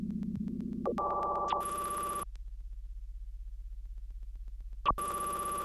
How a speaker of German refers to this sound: Und dann säßen sie alle auf ihren Plätzen und warteten ab, ob bei ihnen das Telefon klingelt. Und bei manchen klingelt es dann.